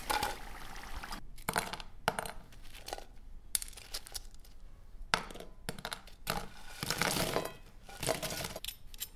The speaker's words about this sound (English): Here I have fried the second batch also and placed it in a plate. Hear the sound guys, how crunchy these are.